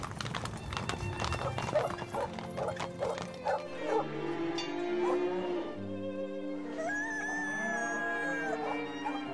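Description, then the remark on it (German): A dog barks in short bursts among busy farmyard noise, including clopping hooves, then gives a high, drawn-out whimpering whine toward the end. “Doch irgendwann gehen ihm Kühe, Gockel, Pferde, Hunde und die übrigen Landviecher mal wieder auf den Nerv.”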